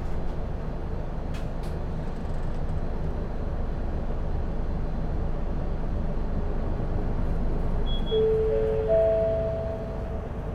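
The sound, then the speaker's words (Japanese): A bus engine rumbles steadily, then near the end a rising whine joins in as the bus departs from the stop and gathers speed. “発車します。ご注意ください。”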